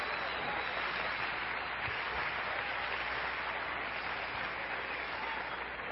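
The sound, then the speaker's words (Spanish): Sustained applause from a crowd, a dense, steady clatter of many hands clapping continuously for several seconds, with no speech rising above it. “¡Ey, si va a aplaudir, hágalo bien!”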